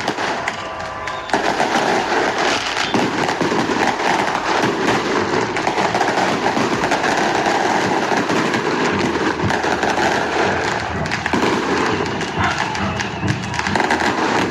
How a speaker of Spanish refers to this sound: Usted lo escucha, ¿no? Esos son los fuegos artificiales que se han dado durante las últimas horas a vista y paciencia de la policía.